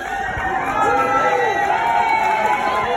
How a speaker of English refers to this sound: The royal couple were met by cheering crowds waving Welsh flags and daffodils.